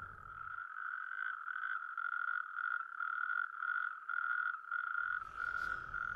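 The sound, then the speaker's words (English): A natterjack toad's loud, rapid rattling trill churns on steadily for several seconds, continuous, with faint pulsing in its rhythm and a brief rustle near the end. “telling us all about the natterjack toad. Do you want to hear him again? Let's have a listen.”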